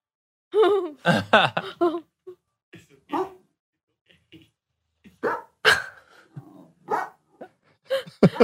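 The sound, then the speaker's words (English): A dog barks and yips repeatedly in short, irregular bursts, fairly loud, with brief pauses and a few whiny, higher-pitched cries between barks, as it reacts to seeing a likeness of itself in a video game. “So the dog, he made his dog, this guy, this Reddit user made his dog in the game, and his dog did not take very kindly to seeing himself in a video game.”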